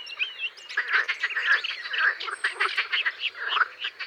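A dense chorus of male marsh frogs croaking continuously, their vocal sacs inflating on each side of the mouth, with rapid rattling, chuckling calls overlapping, while a few thin bird chirps sound faintly in the background.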